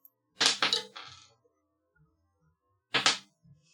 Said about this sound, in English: Now, back to the show. Roll that dice,